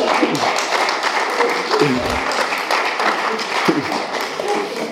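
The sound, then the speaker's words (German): Sustained audience applause, dense and steady clapping from many hands with a few faint voices mixed in, lasting throughout at an even, fairly loud level. “Okay, jetzt Applaus.”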